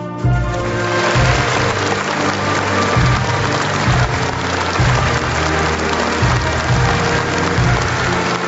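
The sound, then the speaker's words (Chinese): Sustained, dense applause from a large standing audience honoring recipients of national medals and national honorary titles, a steady wash of clapping that stays loud and even for the whole stretch, with a low pulsing tone beneath it. “全体起立，让我们再次用热烈的掌声向国家勋章和国家荣誉称号获得者致以崇高敬意。”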